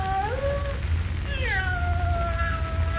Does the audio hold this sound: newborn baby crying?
no